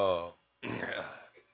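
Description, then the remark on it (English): A fairly loud burp from a radio host: a short throaty voiced tone, a brief pause, then a longer rough, rumbling belch that trails off. “AKA, I had to burp, but see, I ain't want to be all rude in the phone.”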